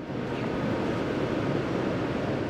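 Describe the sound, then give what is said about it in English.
A steady, dense mechanical roar, heavy in the low end with a constant rushing texture, from wastewater pumps running continuously in an underground pump station at the Jones Island treatment facility, moving water from the district's deep tunnel up into the plant for treatment, with no voices. “These pumps move water from the district's deep tunnel up into the plant for treatment.”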